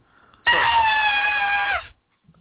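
One loud, high-pitched metal-style scream from a man, held steadily for over a second, with a shrill, piercing tone that dips slightly in pitch just before cutting off abruptly. No talking.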